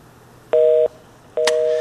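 A phone line sounds two steady electronic tones, the second cut by a brief high-pitched chirp like a modem picking up, all over a faint line hiss with no voices.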